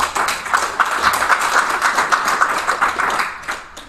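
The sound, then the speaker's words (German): An audience claps steadily for a few seconds in answer to whether they throw away too much food, about a third of them clapping; a dense wash of many hands with a fairly even loudness, fading slightly at the end. No voices are heard. “Wer von euch findet, dass er oder sie noch viel zu viel wegwirft? Einmal bitte klatschen.”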